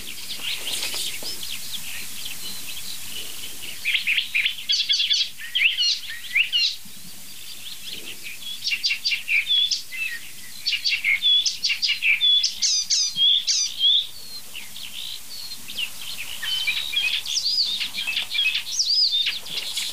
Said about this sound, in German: Alles ein Vogel.